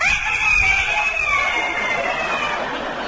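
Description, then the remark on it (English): A loud, drawn-out rooster crow, done by a human voice imitating it. A single strained call rises and then slowly falls over about three seconds, clear with no other talk. “You know, you're not a puppy dog, you're a proud rooster. And it's time for you to crow because the sun is just coming up.”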